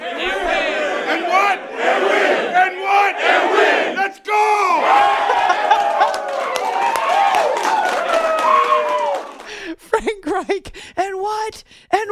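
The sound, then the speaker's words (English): A football team yells together in loud, celebratory shouts after a win, call-and-response shouting "And win!", sustained cheering with overlapping voices, then a few short, choppy bursts of shouting toward the end. “I like that he makes them yell the win part.”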